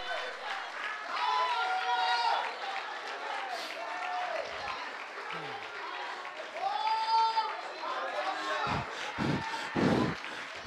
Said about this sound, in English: Somebody clap your hands and praise God for healing. Come on, somebody in here, clap your hands and praise God for healing.